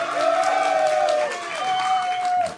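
An audience claps steadily for a couple of seconds, a dense patter of many hands mixed with cheering and whooping voices, holding at a fairly even loudness before fading at the end.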